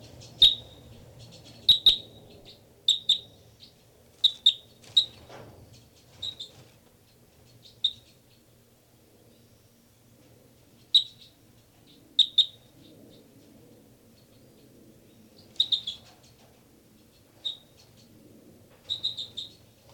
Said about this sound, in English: This is the song of bird 318. Bird 318 here.